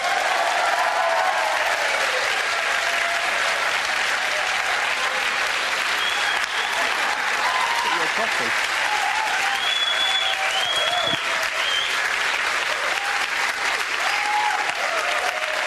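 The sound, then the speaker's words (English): A crowd applauds steadily and loudly for the whole stretch, welcoming Dr. Mark Kermode as he is introduced; a dense wash of clapping with a few cheers and whistles rising over it, never letting up. “You don't have to milk the applause.”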